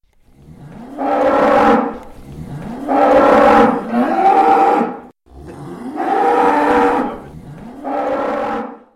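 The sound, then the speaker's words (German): Cows with horns on a farm moo repeatedly, four long, loud, drawn-out calls with short pauses between them, with no one speaking. “Ja, bei einem Bauernhof vorbei. Schau, da haben die Kühe sogar noch Hörner.”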